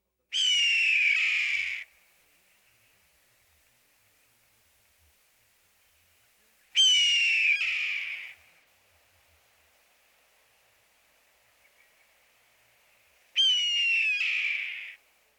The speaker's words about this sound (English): Now compare the two. First, the drawn-out, single-syllable keer of the red-tailed hawk.